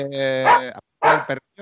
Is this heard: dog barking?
yes